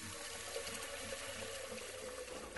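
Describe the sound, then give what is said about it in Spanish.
A steady stream of water pours into a pot of sushi rice for a couple of seconds, setting the rice to soak, continuous, ending with a brief bump at the very end. No one speaks. “Lo primero que hay que hacer es ponerlo a remojar por 2 horas, así que vertemos un poco de agua en una olla con el arroz.”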